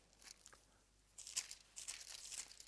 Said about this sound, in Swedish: Jag har ytterligare något bibelställe i Första Konungaboken. Jag får bläddra till nästa bibelbok, kapitel 19.